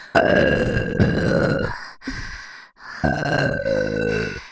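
Two long, loud, throaty burps close to the mic, each rumbling for over a second with a short gap between them, and no talking.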